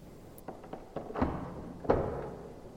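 A few light metallic clicks and taps, then two heavy clunks with a brief ringing tail as the door of a police holding cell is unlocked. No one speaks.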